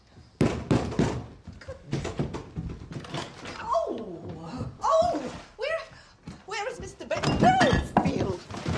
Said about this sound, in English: We open the door at once.